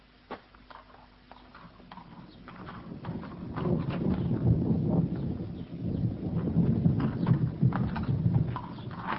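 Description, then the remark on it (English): A horse's hooves clip-clop in a quick, steady rhythm, starting faint and building to a fuller, louder clatter, with a rushing, windy background underneath and no voices, as a rider mounts a mare and rides away before a storm. “scrambles up onto the horse and rides away.”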